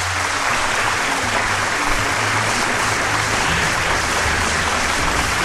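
A dense, steady wave of applause from a crowd, many hands clapping at once in a continuous loud roar with no pauses, and no voices rising above it.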